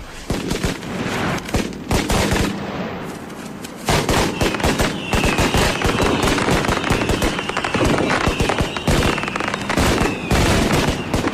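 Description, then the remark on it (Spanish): A loud, dense barrage of rapid firework bangs and crackles, popping almost continuously like a string of firecrackers, with a brief dip before the blasts resume at full intensity. No one speaks. “Así que suenen los fuegos artificiales.”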